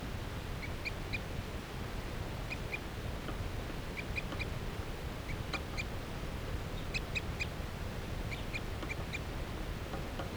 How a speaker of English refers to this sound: Wild bird has perched up in the tree along the net.